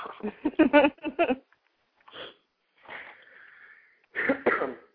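coughing

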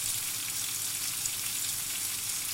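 chicken frying

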